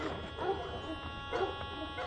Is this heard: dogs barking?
yes